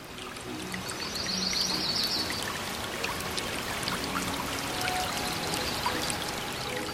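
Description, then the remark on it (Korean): A babbling stream flows steadily through Baeksasil Valley, a forested valley in Seoul, South Korea, its continuous watery rush and trickle filling the scene at moderate volume, with a faint bird call briefly rising above it early on. “눈을 감으면 귓가에 일렁이는 바람소리와 졸졸졸 계곡을 따라 흐르는 물소리가 선명해진다.”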